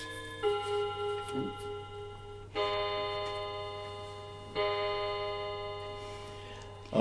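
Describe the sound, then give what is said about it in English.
A clock chimes twice with resonant, bell-like strikes spaced about two seconds apart, each tone ringing and slowly fading over a low steady hum. “It's going to bang twice. For the clock.”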